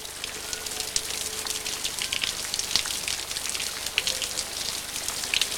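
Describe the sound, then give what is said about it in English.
Steady rain falls during the day outside an open hotel window, a dense continuous hiss with scattered crisp droplet ticks and splashes, moderately loud, with no voices. “in shirt sleeves and waistcoat, stands at his open hotel window, watching the rain and smoking a cigarette, deep in thought.”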